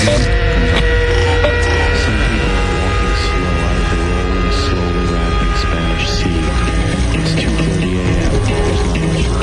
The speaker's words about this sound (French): Il y a juste un endroit, ça fait di di di di tout di di di di. La lumière du frigo. Ça monte comme ça.